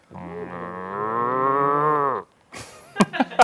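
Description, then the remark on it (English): A cow gives one long, drawn-out moo, loud, lasting about two seconds, followed by a few short knocking and rustling noises. “I particularly like the cow one.”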